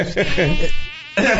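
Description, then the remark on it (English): A loud buzzing of a fly droning continuously, its pitch wavering as it seems to swoop around, with a brief dip in the middle before the buzz swells again. “Not the fly.”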